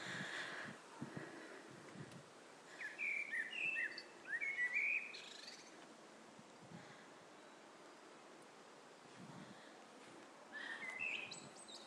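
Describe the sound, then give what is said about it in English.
Faint birdsong from an unidentified bird about two or three gardens away: a few short bursts of chirping notes drift in over a steady outdoor hiss, with soft rustles and gaps of quiet between phrases. “I think the bird's about two or three gardens away because we haven't got any trees in our garden.”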